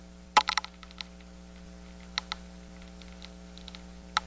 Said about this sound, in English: Now, this is a northern corn rootworm, I assume, munching away at the corn's roots. I'll go by the name here. It is. It's a Diabrotica species. Well, here's a listen.